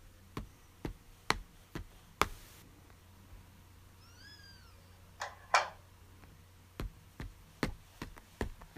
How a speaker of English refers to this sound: No, don't be silly. I didn't lock the door. It's just a weird door that makes weird noises when you close it properly.